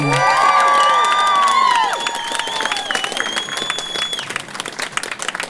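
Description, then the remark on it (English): Loud, steady applause from a large crowd at the Out in the City event, giving performers one more round of applause, with high-pitched cheers and whoops soaring over the clapping at first, then the clapping continuing with scattered shouts as the cheering eases. “Can I please get one more round of applause”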